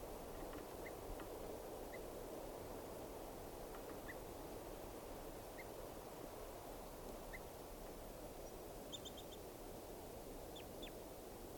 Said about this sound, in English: Recording, these are alarm calls of bird 387.